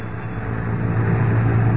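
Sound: london bus engine running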